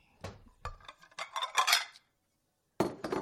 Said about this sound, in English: But it's time to break out some dishes.